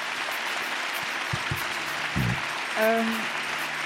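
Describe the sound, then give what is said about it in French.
Audience applause for the speakers at the end of a round-table discussion fills the whole stretch, a dense, steady wash of many hands clapping, with a brief voice or cheer rising above it near the end. “Donc, je pense qu'on peut remercier et applaudir nos intervenantes.”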